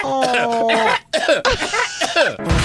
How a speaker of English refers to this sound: you don't hear the other one coughing too? No. They're over here in unison.